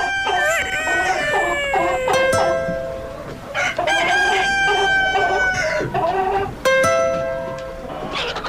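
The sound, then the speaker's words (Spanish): A rooster crows loudly, three long, wavering cock-a-doodle-doo calls in quick succession with only brief pauses between them, no voices present. “El que tiene muy ejercitado su corazón porque le gusta levantarse muy temprano, le gusta cantar y le gusta estar enamorado, es un gallito.”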